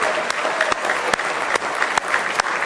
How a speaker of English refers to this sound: Do you appreciate His grace this morning? Amen. Give Him one more big hand clap of praise if you love Him.